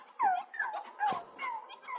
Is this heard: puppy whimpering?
yes